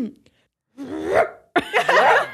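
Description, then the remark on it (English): A person imitates a small dog, like a Pomeranian, barking, giving two sharp, high-pitched, realistic yapping bursts in quick succession, the second louder and rougher than the first. “You sound like you could be like maybe a Pomeranian.”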